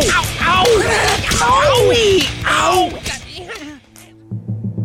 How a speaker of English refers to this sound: Mike the Mauler has really come out slapping. Yeah, but don't count out Crusher Thompson. He gets really slap happy in the late round. That's not fair. Ultimate slap fighting. Tonight at 8, only on the Testosterone Channel.